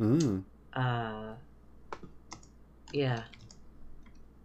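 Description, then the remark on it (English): Quick, irregular keyboard clicks tapping in short bursts as someone hurriedly types a search for a TV show, mixed with a few drawn-out wordless vocal sounds from a person at a moderate level. “I'm typing Black Judge Lady TV show as fast as I can.”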